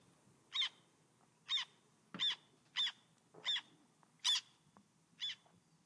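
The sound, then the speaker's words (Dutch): A recorded call of the 'zwarte ster' bird plays back from an app on a phone held to the microphone: seven short, raspy calls repeated at a steady, fairly quick rhythm, moderately loud with a thin, tinny quality and no talking over them. “Moeten we nog even het geluid laten horen van de zwarte ster?”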